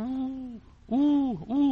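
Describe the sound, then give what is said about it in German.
A voice imitates an eagle-owl's hooting: one long, drawn-out hoot, a short pause, then two more close together, loud with no other sounds. “Bis am Schluss ein Uhu.”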